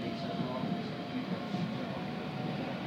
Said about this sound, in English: I just want to get a little bit of the sound of the train.